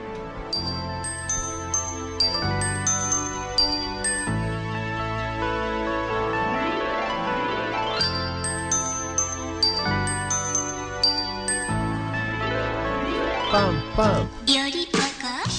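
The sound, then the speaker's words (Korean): The bright, bouncy theme tune of the animated series Dooly the Little Dinosaur (Agi Gongnyong Dooly) plays with chiming, bell-like melody notes over steady bass and rhythm, repeating in short phrases at a lively tempo with no voices. “주제가를 3초만 들어도 제목을 댈 수 있는 그 만화입니다.”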